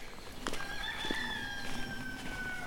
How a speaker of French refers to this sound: Je vous souhaite, comme le coq, une bonne balado et je vous dis à demain, à l'heure du coq.